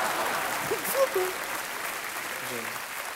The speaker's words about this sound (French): je crois que rien que pour ça, bah, on peut vous applaudir.